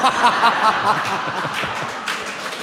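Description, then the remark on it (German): Hesitant, scattered applause from a small crowd, a steady patter of light claps at moderate volume, with a few soft chuckles mixed in at the start. “Vorsichtiger Applaus.”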